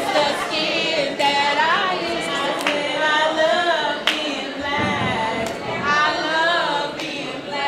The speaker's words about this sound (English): At one point, a group breaks into a spontaneous song.